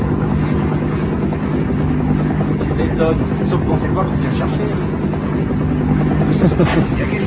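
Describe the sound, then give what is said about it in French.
A helicopter's steady, loud engine drone in a video game runs throughout as it flies alongside, following the player, with indistinct voices talking over the mechanical hum. “Il a regardé l'hélicoptère sur le côté, voilà, il nous suit.”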